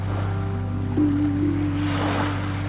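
Waves wash steadily onto the shore, a continuous broad hiss of surf that swells slightly near the middle, with a low steady hum underneath and no voices.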